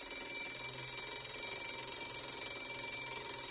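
A school bell rings continuously with a harsh, steady electric clatter, holding at an even loudness for several seconds with no one speaking.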